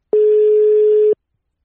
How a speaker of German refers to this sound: Wenn wir ihn denn dann erreichen. Aktuell. Jetzt klingelt's. Überragend.